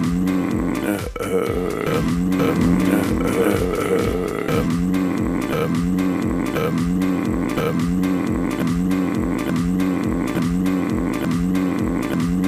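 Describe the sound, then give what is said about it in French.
An old Hurliman tractor engine labors to start, giving a loud, low, rhythmic chugging and sputtering that repeats steadily at roughly one pulse per second, with rattling clanks throughout and no voices. “Mais cette hésitation nous a permis de retrouver notre fameux tracteur Hurliman, le voici en exclusivité.”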